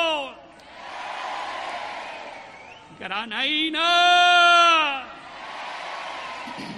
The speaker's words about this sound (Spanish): Por tanto, quiero pediros un aplauso monstruoso para los reyes hermosos que desde Oriente han venido.